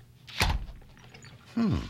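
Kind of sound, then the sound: household object, door slamming shut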